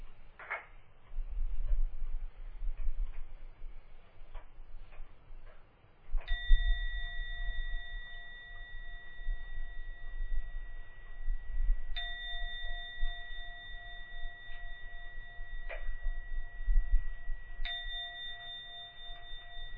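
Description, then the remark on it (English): A meditation gong is struck three times at slow, even intervals to end a meditation, each strike ringing out with a long, sustained shimmering tone over a quiet, low background rumble. “I will now ring the gong 3 times to end the meditation.”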